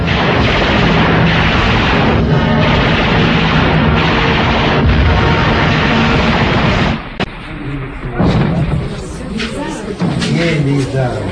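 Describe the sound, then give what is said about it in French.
Explosions from a Stuka dive bomber attack on Russian tanks form a dense, loud roar of repeated booms for about seven seconds, then the din drops away and voices are heard talking. “Les blindés russes sont attaqués par des Stuka.”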